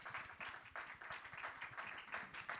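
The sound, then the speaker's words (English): A church audience claps together for their pastor in steady, sustained applause, a dense patter of many hands for a few seconds without any voices over it. “It's okay to clap your hands for your pastor. You should clap your hands for your pastor.”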